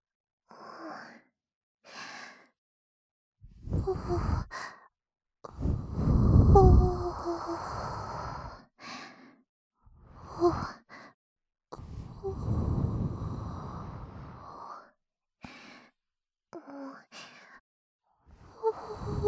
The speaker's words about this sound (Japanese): どうですか？私の吐息、ちょっとくすぐったいかもしれませんけど、もうちょっとだけ。